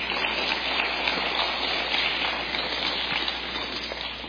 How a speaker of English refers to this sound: Let's give the Lord another hand clap of praise tonight.